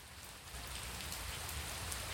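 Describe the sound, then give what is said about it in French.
Steady rain falls continuously, a dense even hiss of drops on a surface with a low rumble underneath, moderately loud with no voices. “La pluie ne cesse pas de tomber.”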